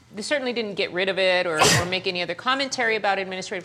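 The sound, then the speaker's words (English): A single sharp, loud sneeze bursts out mid-sentence, briefly cutting into steady speech that carries on around it. “Bless you. Bless your heart.”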